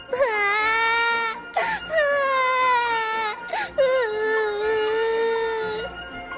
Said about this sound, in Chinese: 可是小公主话都没说，忽然就难过地哭了出来。